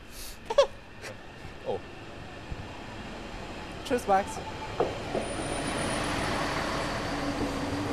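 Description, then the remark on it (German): A new Vogtlandbahn regional train pulls into a station, with a rising rumble, scattered clanks and thuds, and a high squeal of braking wheels toward the end. “Und jetzt hören wir den Zug ankommen.”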